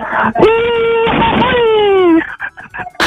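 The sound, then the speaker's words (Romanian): A Romanian folk whoop (chiuitură) shouted on a train: one loud, sustained vocal shout lasting about two seconds, holding a high pitch, wavering, then sliding downward before cutting off, followed by brief scattered noises. “Bag o chiuială de aia.”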